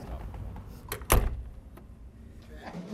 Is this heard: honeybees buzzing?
no